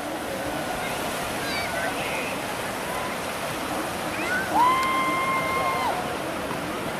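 Small waves wash and lap steadily against an embankment, a continuous splashing wash with no pauses. A brief thin whistle sounds faintly over it partway through.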